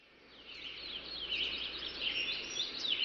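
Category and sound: bird, birds chirping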